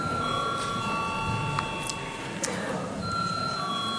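A steady electronic call bell rings continuously in the Latvian Saeima (parliament) before a vote, a sustained mid-high tone with faint overtones holding for the whole four seconds over a low murmur of background noise and a couple of soft clicks.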